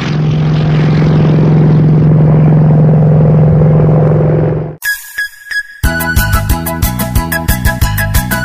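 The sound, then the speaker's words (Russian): A loud propeller airplane drones steadily for about four seconds, its engine hum rumbling broadly, then cuts off abruptly, followed by a brief pause and upbeat rhythmic music. “Посмотрели мы вперед, видим в небе самолет.”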